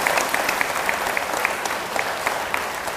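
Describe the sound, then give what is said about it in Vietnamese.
A Buddhist audience applauds steadily as a pledge to attend the temple at least once a week, many hands clapping in a dense, even wash of sharp claps that holds at a constant level for the whole stretch, with no voices standing out. “Nếu quý vị thấy việc đó là có thể làm được thì hãy dâng cho một tràng vỗ tay để cam kết.”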